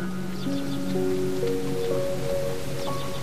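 roaring waterfall

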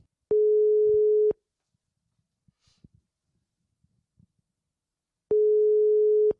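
telephone ringback tone

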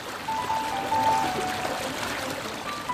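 fountain water splashing

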